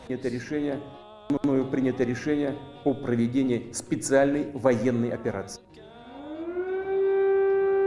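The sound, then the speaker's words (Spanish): Speech fills the first five and a half seconds, then an air raid siren rises in a smooth upward wail and holds a loud, steady tone with rich harmonics to the end. “Alarma que dio paso a este sonido y este no ha dejado de sonar.”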